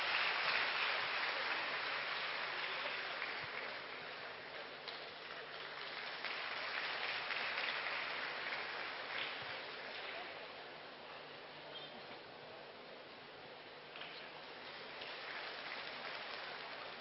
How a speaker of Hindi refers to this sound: तो भाई साहब को हम जोरदार तालियों से धन्यवाद करेंगे।